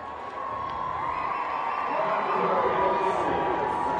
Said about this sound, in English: Corbin Carroll tags, and he will score standing up easily. So the Aces push their first run across to the delight of the home crowd. And it's now Salt Lake 3 and Reno 1.